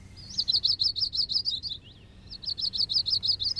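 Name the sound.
warbler singing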